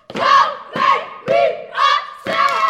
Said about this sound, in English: The sound of the 8-member Kelly Miller step team screaming, stomping, and clapping echoes through the bright, clean hallways of the middle school. They're reviewing step combinations for their final competition this year